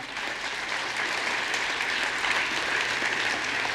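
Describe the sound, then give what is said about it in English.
A crowd claps steadily after a baptism, a dense continuous patter of many hands at an even, moderately loud level for a few seconds with no voices standing out. “That's worth a clap.”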